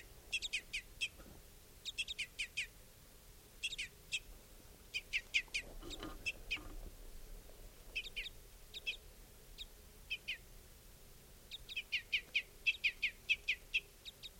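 Adult birds at a camp give repeated bursts of high, sharp chip notes, clustered in quick rhythmic series with short gaps between, over a faint low background hum. No one speaks.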